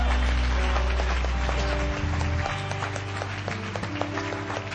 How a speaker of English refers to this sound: Everybody say amen this morning, would you? Give Him a great clap offering.